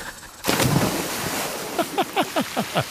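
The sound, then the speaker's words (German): A sudden splash as someone jumps into water, followed by churning, rushing water noise; a run of short descending squeaky chirps repeats toward the end. No one speaks. “Immer wenn er ins Wasser springt, schreit er Geronimo.”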